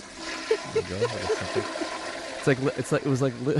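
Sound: toilet flushing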